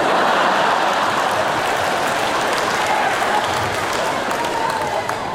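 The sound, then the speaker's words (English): An audience cheers and claps steadily for about five seconds for a student whose question has just been announced, a dense, loud wash of hand claps mixed with whoops and crowd voices that holds an even level throughout. “You're cheering, but she's over here.”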